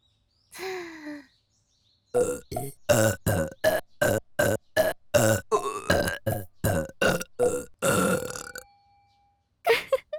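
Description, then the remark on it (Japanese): A long burp, then a fast, steady run of about fifteen short burps in an even beat like a wooden fish (mokugyo) drum, speeding up, followed by one more burp, loud, with no talking. “さらに木魚ゲップでチンポへの血流を促すのじゃ。テンポアップ。”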